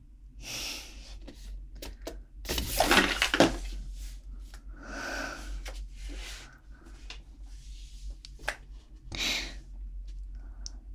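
A water bottle is fumbled and instinctively caught before it falls to the floor: a sudden burst of crinkly plastic knocks and scrapes, followed by softer rustling handling noises and faint breathing, with no one talking.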